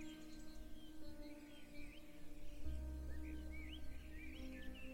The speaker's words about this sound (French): Ces oiseaux qui chantent, le soleil qui brille, sa chaleur, une brise légère qui caresse notre peau.